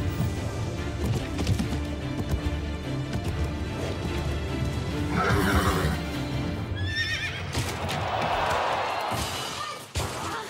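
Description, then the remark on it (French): A horse whinnies loudly, its call rising over a busy, layered background, with hooves and knocking thuds mixed in and a sharp impact near the end. “Il a du cœur, ce cheval.”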